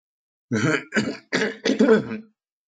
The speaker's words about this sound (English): So, excuse my occasional coughs.